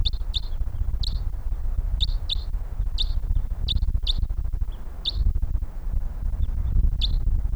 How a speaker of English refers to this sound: Okay, we got birds coming in here.